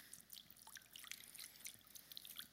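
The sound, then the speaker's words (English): Water trickles and drips in a steady stream of small, bright splashes, quiet, as water is poured gently at a baptism. No voices are heard. “At our baptisms, we pour water.”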